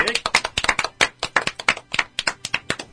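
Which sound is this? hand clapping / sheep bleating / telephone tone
hand clapping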